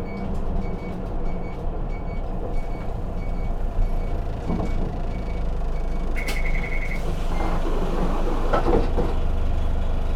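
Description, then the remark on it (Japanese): A bus rumbles low and steady as it slows to a halt at a stop, then a sharp hiss of air brakes bursts out midway alongside a brief electronic beep, with the engine still droning. “停車いたします。”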